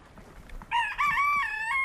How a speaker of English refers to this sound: chickens have fascinated her since she was a child. Gawk, gawk, gawk, gawk, all the time. They're talking to each other. There's an interaction going on all the time.